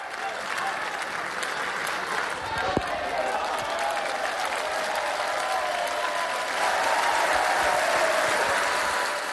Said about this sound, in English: It says an awful lot that the biggest cheer of the day came at this moment.